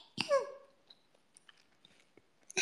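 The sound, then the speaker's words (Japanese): A loud, wet slurp of ramen noodles with a sliding whistly tone, then a series of soft mouth clicks and chewing smacks, ending in another sharp burst of slurping. “ラーメンの音でございます。”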